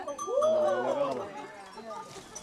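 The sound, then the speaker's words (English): A goat bleats loudly, a long wavering cry over the low clatter and murmur of a herd of goats being driven by two dogs, with faint bell clanks and voices in the background. “Yeah, the one dog wants to come and chase the goats, and the other one holds them back.”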